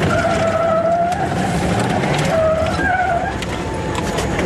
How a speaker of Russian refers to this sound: Сквозь визг колес и рев мотора, не добирая слов, водитель приказывает покинуть транспорт и изо всех сил бежать в подъезд.